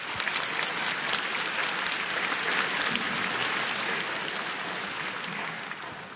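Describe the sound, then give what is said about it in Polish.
An audience applauds a guest psychologist steadily for about six seconds, a dense, even wash of many hands clapping with no one speaking over it, tapering slightly at the end. “Może od razu brawa”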